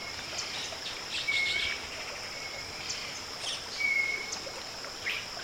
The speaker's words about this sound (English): In the thoughtful whistles of the rufous-backed robins.